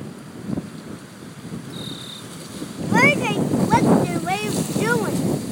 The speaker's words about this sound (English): Look at it. It's making waves on the water. See? Yeah. Oh, it's nice out here. The wind. Oh, hear the waves.